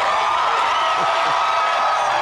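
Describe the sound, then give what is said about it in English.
A loud, sustained crowd roar of cheering and applause, a dense steady wash of noise with occasional whoops rising out of it, no single voice standing clear. “Sounds like a hot crowd, I can tell.”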